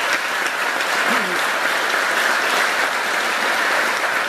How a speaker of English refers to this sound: Let's give a round of applause to Richard Ball.